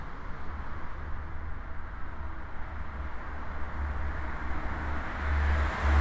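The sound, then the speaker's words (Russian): Steady road traffic noise at a highway interchange, with a low rumbling hum and a broad wash of hissing car tyres as cars pass under stone and iron bridges and trains pass by, swelling slightly toward the end; no voices. “Здесь есть звук шипение колес, здесь есть погружение куда-то вот под каменный мост, под железный мост автомашин или автомобилей. Есть звук поездов, которые проезжают.”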